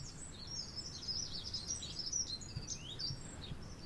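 A small bird sings about one meter away, to the left, in a rapid stream of high, bright chirps and trills that runs the whole time, over a low outdoor rumble with no one talking.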